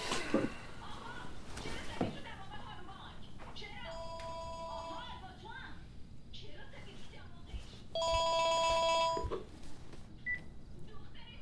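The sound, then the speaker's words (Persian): A telephone rings in two bursts of bright electronic tones, the second louder and longer, while people talk quietly in the background. “تلفنم من باید جواب بدم.”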